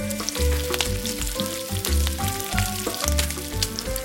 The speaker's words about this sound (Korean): 데친 홍합에 밀가루를 가볍게 묻히고 튀김 반죽에 담갔다가 튀김가루를 덧입혀 끓는 기름에 넣었다. 홍합탕이 지글지글 끓어가고 타다닥 튀김이 익어가는 소리에 저절로 군침이 돌았다.